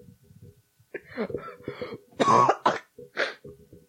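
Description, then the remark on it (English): Several harsh, phlegmy coughs come in close bursts, the loudest in the middle, with throaty rasping between them and no talking over them. “Yeah, but then sometimes you cough and it feels like it's your heart instead of snot coming up your throat, which is weird.”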